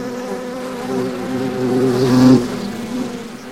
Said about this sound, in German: In den aufeinander gestapelten Holzkisten da vorne leben mehrere hunderttausend Bienen, die jedes Frühjahr ausfliegen und die Obstbäume hier in der Gegend bestäuben.